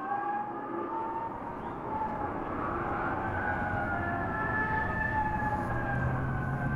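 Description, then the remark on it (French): Several police car sirens in Dallas wail together, their tones slowly rising and falling over a steady rumble of traffic-like noise, sustained and fairly loud throughout with no voices. “Le peuple de Dallas pleure, les ondes des voitures de police pleurent, elles aussi.”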